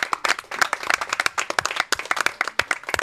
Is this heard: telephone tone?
no